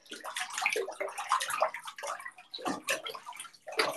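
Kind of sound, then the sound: household object, bathwater splashing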